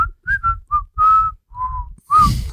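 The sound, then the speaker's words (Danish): A person whistles a short, halting tune of about seven separate notes, with breathy low-end puffs under each note and a final longer, louder whistle. “Du er en der kan pifte eller måske skal man uge, men altså.”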